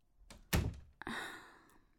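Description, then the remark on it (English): A door shuts with a solid, heavy thunk, followed half a second later by a softer knock and a brief rush of rustling noise. No one speaks. “Yeah, close the door.”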